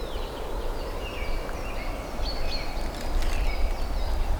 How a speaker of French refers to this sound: Une forêt, des oiseaux qui s'égosillent